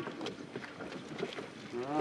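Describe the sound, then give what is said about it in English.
A small boat carrying people, including day laborers, crosses the narrow river between Myanmar and Thailand, with steady splashing and rushing water, wind buffeting the microphone, and a faint voice rising briefly near the end. “In practice, many, like those in this boat, come across informally.”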